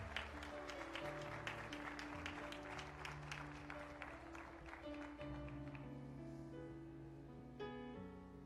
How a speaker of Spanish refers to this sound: Aleluya. Un aplauso.